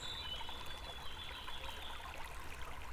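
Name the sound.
river water flowing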